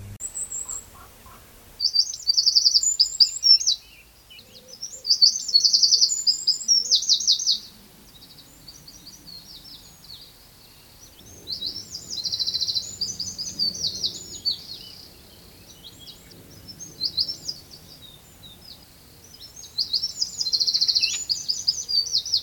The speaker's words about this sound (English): Yeah, so that one is the wren, which I would argue is pound for pound the best singer in Ireland. That's Eurasian wren.